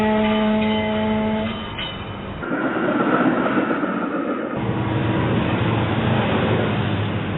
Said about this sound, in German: Eisenbahnzug